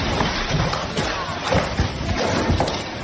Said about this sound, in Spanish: Es el sonido en el municipio de Gibraleón, donde la lluvia y el viento han tirado mesas y sillas de un local.